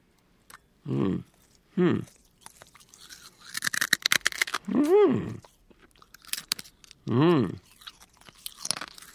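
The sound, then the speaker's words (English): Sharp, brittle crunching and crackling from someone chewing glass as a stunt, in bursts over several seconds, broken up by short, pitched vocal groans and hums. “chewing up the glass and swallowing is the easy part of this stunt”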